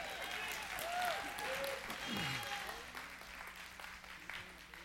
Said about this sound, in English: Y'all can clap for the praise and worship team if you want to. Come on.